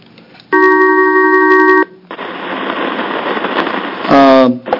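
A telephone call going through to an appointee to the Oregon Watershed Enhancement Board during a Rules Committee public hearing: a steady electronic ring tone holds for over a second, then a stretch of line hiss and static, ending in a short burst of warbling tones.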